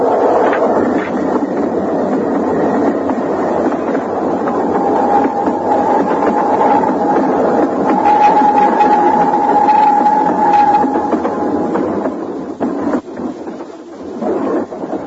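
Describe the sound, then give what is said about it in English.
A train roars past, a loud, steady rumbling clatter with a long high-pitched squeal or whistle running through the middle before the noise drops away near the end. “I have to see the train go by.”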